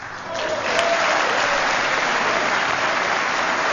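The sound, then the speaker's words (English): A large crowd at the State of the Union bursts into sustained, loud applause for a 102-year-old voter who waited hours in line, a dense wash of clapping that swells quickly and holds steady throughout with no talking. “She was at the State of the Union and received that big round of applause for surviving all of those hours, and I guess surviving 102 years.”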